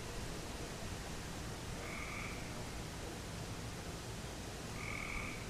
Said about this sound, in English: It is night. The moon is not up yet. The tree frog is going crazy.